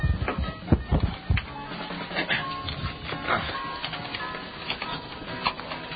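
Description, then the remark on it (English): Microphone handling noise during an on-air broadcast as the mic is knocked and then swapped: a few heavy, muffled thumps near the start, followed by steady scraping, rustling and small clicks as the mic is moved about, with no clear speech. “This is only the second time I've ever tried changing microphones on the air.”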